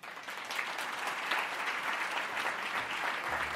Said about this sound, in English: Who told you to clap?